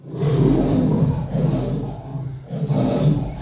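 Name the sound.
lion roar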